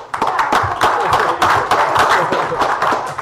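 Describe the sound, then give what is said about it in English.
A round of applause from a group of people at a borough meeting, welcoming the new police chief; steady dense clapping with many overlapping sharp claps sustained at an even, fairly loud level throughout. “Yes, give him a round of applause.”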